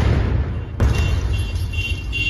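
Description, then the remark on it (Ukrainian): An FPV drone strike explosion cracks out near a car on hospital grounds in Druzhkivka against a steady low rumble. It is one sharp, loud blast, followed by a lingering wash of noise, with no voices. “На території лікарні жахнули.”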